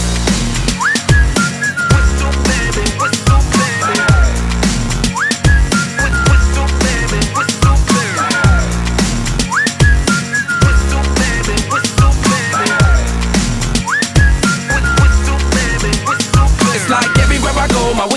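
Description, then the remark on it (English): A catchy whistled melody rides over a thumping hip-hop beat, the short looping phrases repeating every few seconds with steady bass kicks underneath. “Can you blow my whistle, baby? Whistle, baby. Here we go.”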